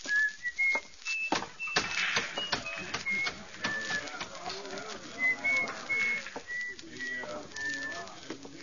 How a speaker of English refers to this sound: On a sunny day, you could see him walking down the shady side of the street, whistling and handling the oddments in his little pocket.